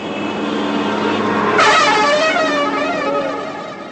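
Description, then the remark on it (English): Loud, sustained car horns blare over a busy road in the hills of Afghanistan, as a driver honks angrily in knotted traffic jams and others hoot back; several horns overlap and shift in pitch as vehicles pass, with constant traffic rumble underneath. “He angrily honked his horn as the traffic knotted itself in needless jams and laughed loudly when people indignantly hooted back.”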